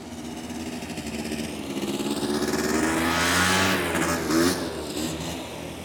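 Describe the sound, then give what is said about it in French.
A small scooter engine buzzes closer, grows loudest midway, then fades as it passes by on a tiny island, its whiny motor note rising and falling steadily with no voices. “On circule à scooter ou à vélo, sans casque.”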